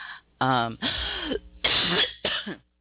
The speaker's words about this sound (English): So I'm going to jump into some music because I feel like I'm coughing. And I apologize for coughing in your ear.